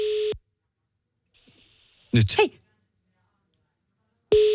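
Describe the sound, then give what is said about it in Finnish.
A telephone ringback tone sounds in short, steady electronic pulses, one at the start and another about four seconds later, with a person speaking briefly in the quiet gap between them, as the call goes unanswered. “Särstää muuten, jos puhelin soi ja kukaan ei vastaa.”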